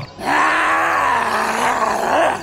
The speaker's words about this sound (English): Within a second, she lunged at me, letting out an animalistic growl.